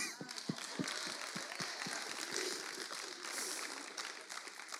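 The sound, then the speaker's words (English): An audience claps together, a dense, steady wash of many hands that holds at an even level through the whole stretch, with sharper individual claps popping out now and then. “Okay, clap.”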